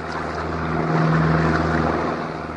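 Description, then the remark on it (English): A boat engine drones steadily with a low hum as the boat heads out into the Adriatic Sea, while wind and rushing water wash broadly across the sound, fairly loud, swelling slightly midway through. “And now that monster stood beside me, heading out into the Adriatic to show off his skill as a helmsman.”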